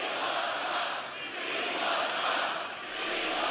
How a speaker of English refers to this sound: And here is part of the crowd chanting, we want Trump.